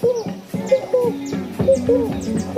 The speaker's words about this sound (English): I started really feeling different, feeling lighter, feeling happier, feeling more aware of the sounds of the forest. There was this frog making this sound.